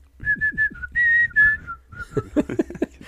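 Someone whistles a short, clear tune of several distinct notes, followed by a brief burst of voice-like sounds at the end.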